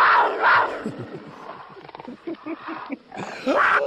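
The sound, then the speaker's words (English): A voice imitates a mountain lion's roar with two loud, raspy bursts at the start, a quieter growling stretch, then another strong roar at the end. “It started with the mountain lion.”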